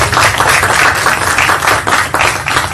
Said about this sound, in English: So, Thank you so much. We appreciate all of you. How about a round of applause for her?